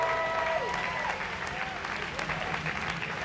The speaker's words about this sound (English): And welcome for the very last time, a big cheer, the very last time this conference, anyway, this weekend, Pastor Gary Morgan! Come on.